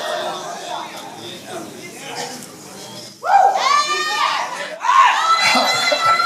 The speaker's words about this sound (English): Ooh, y'all are shouting now.